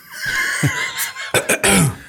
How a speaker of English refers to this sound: Or a laugh button. You push the button and it coughs? Or when you're coughing, you push the button and it cuts you out? Just point at me and I'll cough for you.